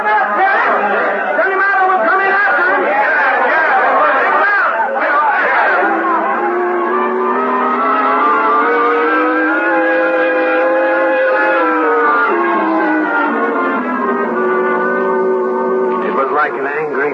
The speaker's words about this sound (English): Rising, falling, the shouting and muttering of the crowd milling around outside the jail in Weatherby, Arizona.